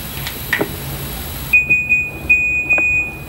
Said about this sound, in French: Il y a SMS en morse dans la sonnerie du nom de spécial, mais il y a aussi un message subtil dans sa sonnerie ascending. Je vous la fais écouter.